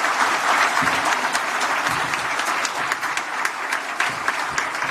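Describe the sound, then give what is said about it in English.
Sustained applause from a sizable crowd in Buffalo honoring the city's workers, a dense wash of many hands clapping together at steady volume for the full stretch, with no voices rising above it. “Please, let's give them all a big round of applause.”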